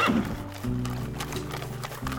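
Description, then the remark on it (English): A horse-drawn carriage moves away, hooves clip-clopping in a steady rhythm over a continuous low rumble of wheels, at an even moderate loudness with no voices. “Move on, the voice said, and the carriage moved away.”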